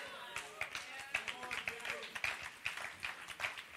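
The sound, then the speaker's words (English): Older people clapping at Hope City Church in a steady rhythm, roughly two claps per second, sharp and fairly loud, with indistinct voices murmuring underneath throughout. “That's the old people clapping just then.”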